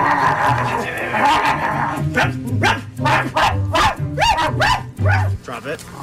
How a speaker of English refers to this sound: She's the dog. You'll hear a dog barking, and she's getting reprimanded.